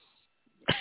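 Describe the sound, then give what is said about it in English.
A single sudden, loud sneeze bursts out near the end after a near-silent stretch, sharp, with a brief trailing vocal tail. “Bless you.”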